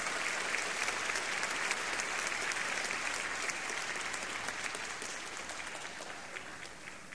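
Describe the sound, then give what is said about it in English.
Sustained applause from a large audience at a Chicago Symphony Orchestra concert conducted by Rafael Kubelik, as he returns to center stage and asks the orchestra to stand; a dense steady patter of many hands clapping that holds at a moderate level and tapers slightly toward the end, with no voices. “And the applause returns Maestro Kubelik to center stage, as he did when the music stopped and the applause started, asks the members of the Chicago Symphony to stand with him.”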